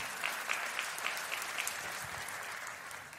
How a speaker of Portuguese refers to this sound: Para Jesus, pode aplaudir.